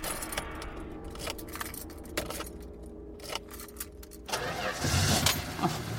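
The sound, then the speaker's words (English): Clicks and fumbling of keys as someone with shaking hands takes several tries to get them into the ignition, then a car engine cranks and turns over, roaring to life and settling into a loud, steady rumble in the final seconds. “Hands shaking uncontrollably, it took several tries before I could get the keys into the ignition.”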